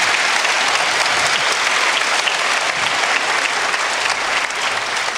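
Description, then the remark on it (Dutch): An audience at a session gives a warm round of applause to a group of people who have just been introduced by name, a dense, even wash of many hands clapping at a constant loud level throughout, with no voices rising above it. “Wil je ze alsjeblieft een heel hartelijk applaus geven?”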